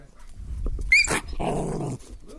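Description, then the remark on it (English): A female dog gives a short high yelp, then a low, rough growl lasting about half a second, fairly loud, with no talking. “No, I just had her on a funny angle. She's fine. You heard her.”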